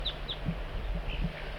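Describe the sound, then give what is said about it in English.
An adult bird, numbered 4-3, gives a soft flight call to coax a juvenile in: a few brief, high chirps in loose, irregular succession, fairly faint over a low background rumble with some soft, low blips. “Bird 4-3 coaxing the juvenile in with soft flight call.”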